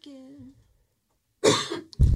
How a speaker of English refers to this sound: We're still clearly not 100%. Sneezing and coughing.